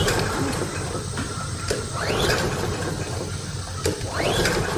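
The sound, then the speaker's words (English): Someone yanks a lawnmower's starter cord twice, each pull a rising whirring rasp over steady mechanical rattle, and the engine never catches. Fairly loud, with no voices. “There's no need to pull your shoulder out of your socket.”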